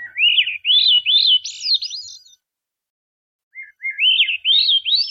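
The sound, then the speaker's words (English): A Swainson's thrush sings two clear, flute-like phrases of rising, spiraling notes separated by a short pause, loud against an otherwise silent background. “Listening to the Swainson's thrush like this, I can't help marveling that such beauty as this has arisen out of the natural world, as if bird songs existed purely to elevate the human spirit or the human soul.”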